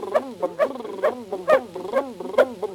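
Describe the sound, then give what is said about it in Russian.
A puppy yaps over and over in quick, high-pitched, excited bursts, about three barks a second, as it runs ahead, with no one talking. “Щенька радостью пылая, впереди несется лая.”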